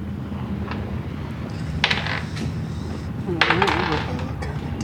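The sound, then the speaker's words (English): Dice rattle and clatter across a table in two short bursts, a few seconds apart, as players roll initiative in a tabletop game, with faint voices and room murmur underneath. “I would like you all to roll initiative, please.”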